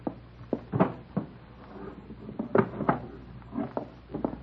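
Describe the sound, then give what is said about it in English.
The bottom drawer of a wooden dresser is pulled open and pushed shut, giving a series of rattling clunks and scrapes with brief pauses between them, and no one speaks. “In the bottom drawer of the dresser. I'll get it.”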